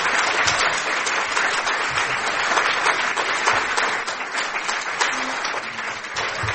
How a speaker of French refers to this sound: Voilà, on va s'arrêter ici puisqu'il est l'heure. Je vous invite à applaudir nos deux intervenants pour ces